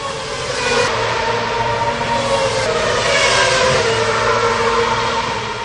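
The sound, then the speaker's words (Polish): A loud, high-pitched Formula 1 car engine roars continuously, its whining tone holding steady and then swelling slightly as it revs, with no voices over it, during a passenger ride in the car. “To taka przejażdżka tym bolidem jako pasażer, bolidem Formuły 1.”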